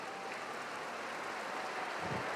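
Steady, dense applause from a large concert audience fills the War Memorial Opera House in San Francisco as conductor Maestro Debart returns to the stage and applauds, a continuous crackling wash of many hands clapping at even loudness throughout.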